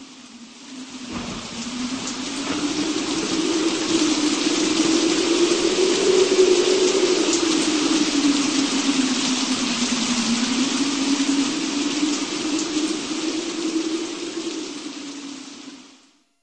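Steady, dense hiss of rain falling, continuous and fairly loud, with a low droning hum that slowly rises and falls underneath before everything fades out at the end. No voices.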